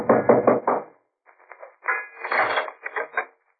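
Firm knocking on a wooden door at Peterson's boat hire by the ocean: a quick run of four raps, a short pause, then a longer, slightly rattling series of knocks, fairly loud, with no voices.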